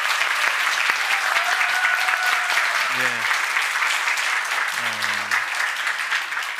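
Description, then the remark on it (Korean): A large church audience applauds steadily for several seconds to encourage the choir, its conductor and its accompanist, a dense, even wash of clapping, while a man's voice speaks briefly over it twice. “우리 성가대 모든 성가대를 대표한 거니까 우리 정말 격려의 박수 한번 부탁드리겠습니다.”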